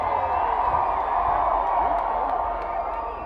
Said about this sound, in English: Woo! This is a whole lot of people. Make some noise tonight! Just so you know, this is a record crowd.